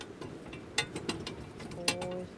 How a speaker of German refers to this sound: Ja, du hörst das Meer rauschen, du hörst die Kutsche quietschen und so ein bisschen die Pferde.